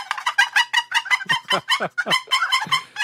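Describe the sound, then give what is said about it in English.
Two people work handheld paddle turkey calls frantically to imitate two male turkeys fighting. The result is a loud, rapid, chaotic stream of overlapping raspy yelps and clucks with no pauses. “Ladies and gentlemen, you are hearing the sound of two male turkeys fighting.”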